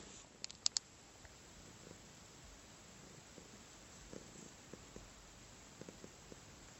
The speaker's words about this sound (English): I wonder if they can hear Willow purring on there. Maybe they can. She purrs so loud.